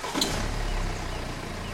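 A Lexus car engine starts with a sharp burst, then settles into a steady, deep rumbling roar that holds loud for the rest of the moment.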